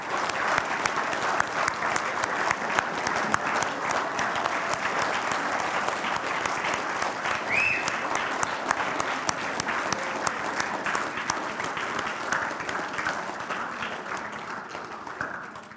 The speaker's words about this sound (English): I think it would be appropriate if you would stand. And the Bible does say to give honor to those whom honor is due. So could we just clap for them today and express our appreciation?